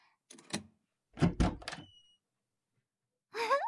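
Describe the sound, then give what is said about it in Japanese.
A door is unlatched and opened: a few sharp metallic clicks and a rattling clatter, a pause, then a brief squeaky creak at the end. “ドア開けますね。”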